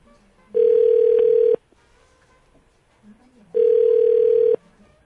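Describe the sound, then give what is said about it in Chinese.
Two loud, steady telephone ringback tones of about a second each, separated by a two-second pause, heard on an outgoing call with only faint background noise between them. “有吗这种事你把它卡掉就会变这样子吗”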